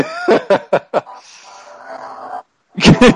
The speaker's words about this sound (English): Damn, and he's breathing hard, too, though. Oh, he's in pain, man. He's breathing hard as fuck, too.